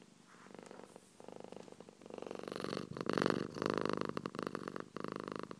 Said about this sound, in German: So, für alle Katzenlover, purr, Katzenschnurren.